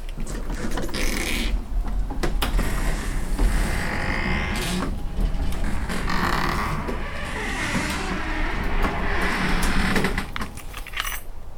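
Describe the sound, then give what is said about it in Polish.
A metal garage gate creaks open slowly with drawn-out squeals, mixed with keys jangling and mechanical rattling, fairly loud for about ten seconds before settling. “Brama się otwarła, możemy zabrać nasze kwiatki.”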